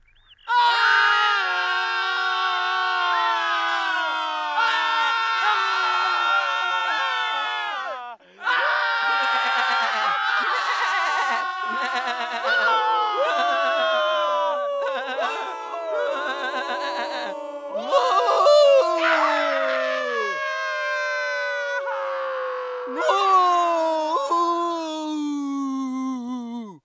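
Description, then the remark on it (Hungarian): A group of boys howl and yell together in long, wavering cries that rise and fall, loud, keeping up almost without pause apart from one brief break. “Üvölteni kellett.”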